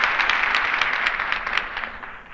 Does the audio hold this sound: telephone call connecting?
no